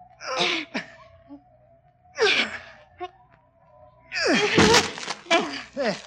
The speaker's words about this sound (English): can't you break the door down? I can try, milady. Here, let me help. Now then, both together.